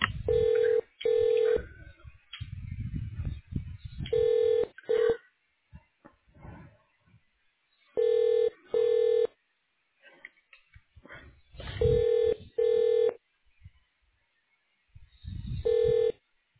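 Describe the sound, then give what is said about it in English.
Telephone keypad tones beep in short, steady pairs as keys are pressed in the phone menu of United Medical Imaging, with a new pair roughly every four seconds, each beep loud and clear. Low muffled rumbling fills the gaps between them. “For the site manager, press 7.”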